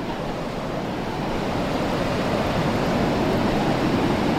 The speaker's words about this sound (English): All right, if the wind can just please die down for a second, we might be able to hear the sound of the waves. Oh, God. I forgot about this. The water sometimes comes way up.